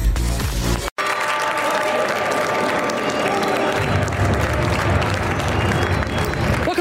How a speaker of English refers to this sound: First Move, and you're looking at clapping, smiling faces back at the New York Stock Exchange, where U.S. stocks are rising for a second straight session, regaining much of what was lost during Monday's sell-off.